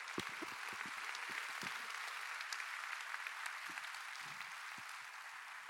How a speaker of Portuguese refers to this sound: Quem pode dizer amém? Quem pode dar um aplauso para Jesus nessa manhã?